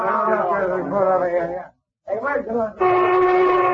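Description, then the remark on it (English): Voices talk briefly, then a factory lunch whistle blows a loud, steady, unbroken blast that holds on at full strength to the end. “That's a lunch whistle”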